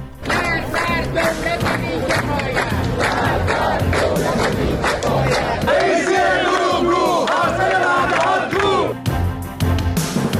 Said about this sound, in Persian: تظاهرات اعتراضی دنباله‌دار بازنشستگان ایران در کشور.